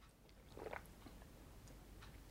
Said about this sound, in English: I'm just gonna have a sip of coffee.